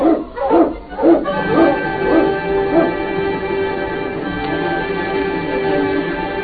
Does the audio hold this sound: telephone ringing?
no